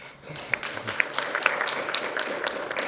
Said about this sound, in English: All right, give Dr. Jeffries Leonard another round of applause, please.